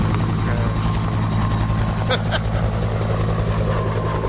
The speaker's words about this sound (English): Oh, there's a helicopter. I wonder what's going to happen.